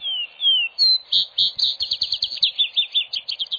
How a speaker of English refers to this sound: Across the road, over the open field, a bobolink sings his last song of the evening. And then gives over to the vesper sparrow that does his finest singing in the twilight.